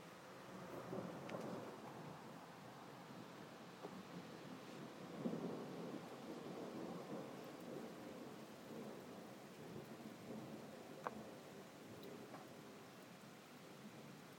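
thunder

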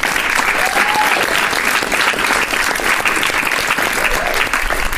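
audience round of applause

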